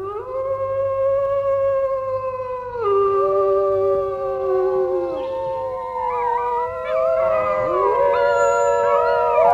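Several wolves howl together in long, overlapping, sliding tones that rise and fall, forming a sustained, fairly loud chorus with no talking.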